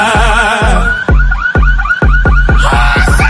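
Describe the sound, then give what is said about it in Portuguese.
Pickup truck alarms wail and warble in overlapping tones, loud, over a steady pounding of heavy bass thumps roughly twice a second; no one speaks. “Os gravão pesado tão tremendo os cara andar, e os alarmes das caminhonetes já começaram a disparar.”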